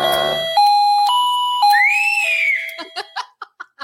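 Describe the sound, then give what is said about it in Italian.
A short electronic theme jingle: sustained synth notes stepping through a simple melody, a sliding whistle-like swoop, then a run of quick choppy, giggle-like pulses to close. “Quindi io direi di andare con la nostra meravigliosa sigla del confessionale senza scopo di colpa.”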